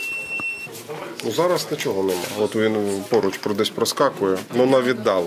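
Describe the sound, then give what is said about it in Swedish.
A drone warning screen at a medical station gives a steady, high electronic beep for under a second at the start, signalling drones in the area fairly far away, then a person talks over the rest, with no further beeps standing out. “Det blippar och piper från en skärm och det indikerar att drönare finns i området, men på ganska långt håll.”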